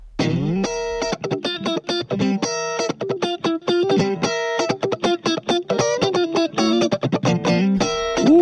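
A pop band recording plays at a steady loud level, with bright harmonic guitar or synth tones over a driving rhythm of sharp repeated hits; no one talks over it.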